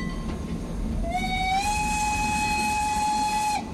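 A train rumbles steadily along the rails, and a long, sustained whistle sounds for a few seconds over the low, continuous rolling noise.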